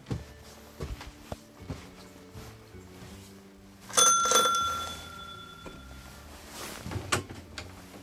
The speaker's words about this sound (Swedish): Jag ringer på i den gamla stationsklockan, men märker snart att det är köksvägen som gäller.